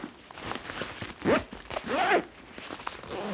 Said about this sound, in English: Do you listening know what it is? That has got to be a zipper. And it's coming from the kitchen.